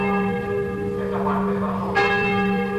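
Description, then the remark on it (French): Church bells of Saint-Joseph Cathedral in Hanoi, a church built by the French in 1886, ring out in a sustained, resonant peal, their overlapping tones humming steadily with a fresh strike landing near the end. Moderately loud and reverberant, with no voices. “Les cloches de la cathédrale Saint-Joseph à Hanoï, avec le mausolée Ho Chi Minh, l'église construite par les Français en 1886, reste l'un des principaux aimants à selfie”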